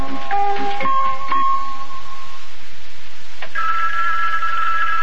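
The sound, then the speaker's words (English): A telephone rings loudly, a bright warbling tone in quick bursts, then a brief pause before a steadier ring sounds again. No one speaks. “Telephone's ringing.”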